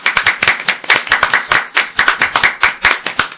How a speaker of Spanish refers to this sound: Lo bueno de un espacio tan pequeño es que los aplausos suenan de maravilla. Se multiplican. Se multiplican, es así.